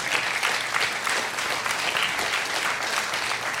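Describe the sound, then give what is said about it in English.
Sustained applause from a large audience during a sermon about trusting God, a dense, even wash of many hands clapping at steady loudness throughout, with no voices rising above it. “How many of us, you can clap for that.”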